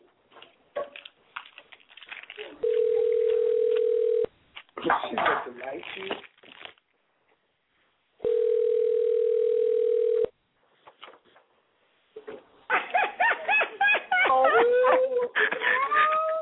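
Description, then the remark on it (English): A house phone rings twice, each ring a long, steady, loud tone lasting about two seconds with a pause between, while people chatter and laugh around it. “You calling my house phone, girl?”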